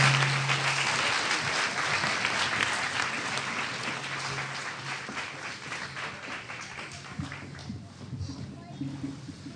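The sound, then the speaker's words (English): An audience applauds a man steadily, a dense wash of clapping that gradually thins and softens toward the end, with faint voices murmuring underneath. “Give him one more round of applause.”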